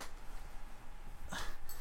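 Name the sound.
dogs whimpering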